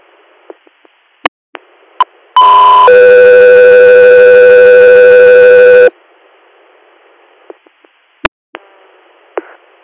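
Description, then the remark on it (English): A loud, steady electronic radio dispatch alert tone for Echo 3 Air holds for about three and a half seconds, bracketed by short clicks and squelch bursts of radio static before and after. “Echo 3 Air, stand by for tone.”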